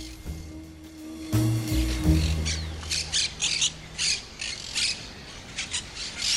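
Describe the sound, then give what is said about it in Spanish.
A parrot squawks in a rapid string of harsh, raspy, loud calls after a brief low rumbling hum at the start. No one speaks. “No quiero que se me termine el año sin poder cerrar un par de cuestiones sobre tu vínculo de la infancia con las mascotas del tipo loro, cotorra.”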